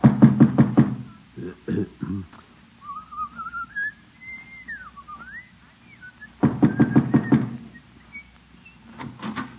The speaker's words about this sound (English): You said you were going to tell her this morning. Just knock on her door and get it over with. All right, by George, I will.